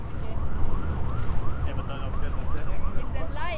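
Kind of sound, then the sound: vehicle, police car siren passing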